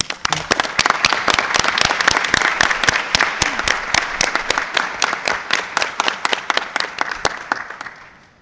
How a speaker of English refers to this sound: Thank you very much, and I think this merits an applause.